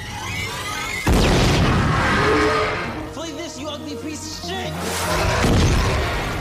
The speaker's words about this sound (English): The Wheelermobile gang is back with Lucas's fireworks. I love that the fireworks came back into play. So they are throwing all kinds of fireworks at this thing, and maybe it's hurting it, but it's definitely distracting it and getting its attention.